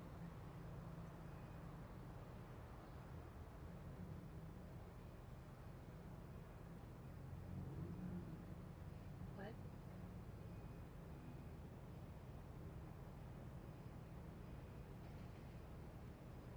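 A steady, low rumble of a car interior hums along quietly and evenly throughout, with a muffled road-and-engine drone and no distinct events standing out.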